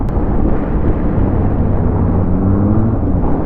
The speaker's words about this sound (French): Hop, ça c'est la télé qui est en train de passer là. Il y a deux motos de la télé là.